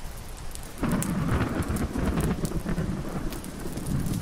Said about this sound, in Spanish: Marta, la tormenta estaba llegando.